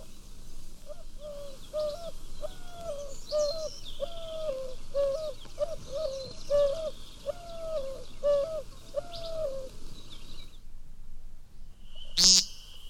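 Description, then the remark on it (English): A white-winged dove, a migratory game bird, calls in a steady series of hooting coos for about ten seconds, clear, with faint chirping from other birds in the background. “The migratory white-winged dove is considered a game bird in the states bordering Mexico.”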